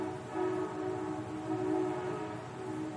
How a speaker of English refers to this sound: Gotta love living by the railroad track. We live about 200 feet from it in Tennessee, Illinois, so we're a little used to it.